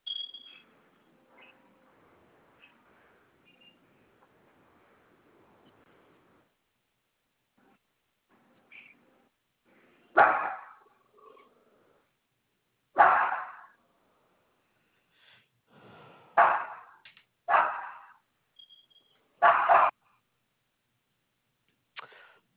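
A dog barks about five times in short, sharp bursts, loud, spaced irregularly over the second half after a stretch of near-silence with faint background murmur.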